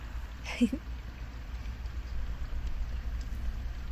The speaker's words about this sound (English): It might be a bit silly, but you know, I'm kind of glad we got caught up in the rain.